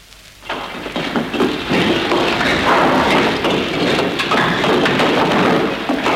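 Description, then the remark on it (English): Bricks from a demolished air raid shelter being thrown onto a truck, recorded with a microphone hung out of a window: after a brief quiet moment, a loud, dense roar of clattering and thudding impacts runs on steadily for several seconds, gritty and crowded, with no voices. “We hung a microphone out of the window and recorded the bricks being thrown onto a truck.”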